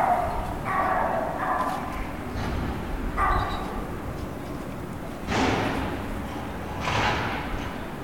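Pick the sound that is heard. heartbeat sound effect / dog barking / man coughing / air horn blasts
dog barking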